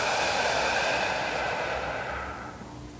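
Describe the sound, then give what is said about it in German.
A long, breathy exhalation during a guided meditation, a steady airy rush lasting a few seconds before trailing off softly at the end. No talking. “Und wieder aus.”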